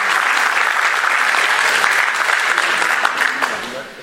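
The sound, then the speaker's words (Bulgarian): A crowd claps steadily for a political party's 11th-numbered candidate, a historian, as party candidates are presented, a dense wash of many hands filling the whole stretch at fairly high volume before thinning slightly at the very end. “Моля за вашите аплодисменти.”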